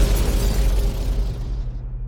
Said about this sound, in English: The energy from Alex's hand moves from his arms, up the piped white lines of his suit, glowing from the energy and then forming into the center ring, powering up, and then firing. Hitting the suspended target ahead of him dead on, destroying it.